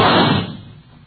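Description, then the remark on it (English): A single loud gunshot cracks out as a man fires at a leopard attacking a woman, its booming blast fading over about half a second into a dull echoing tail, with no voices present. “I knew I had time for only one shot.”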